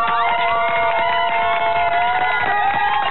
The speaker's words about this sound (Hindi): A7 10 number market, E4, E5, E8 गुलमोहर, त्रिलंगा, जट खेड़ी, इन सब areas में रहने वाले लोगों के लिए तालियां।